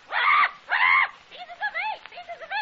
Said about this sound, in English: Quiet, you fool parrot.